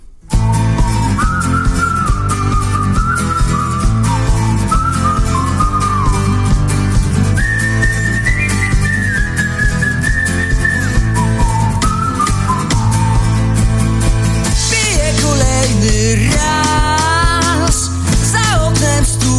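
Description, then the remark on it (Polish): A playful folk tune plays continuously at full volume, a bright whistle-like lead melody dancing over a steady rhythm and bass, with no voices. “okraszona przewrotnie figlarną, folkową melodią.”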